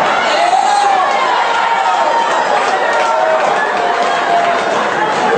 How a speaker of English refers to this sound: There's no need. One guy booed that joke. You're outnumbered here tonight.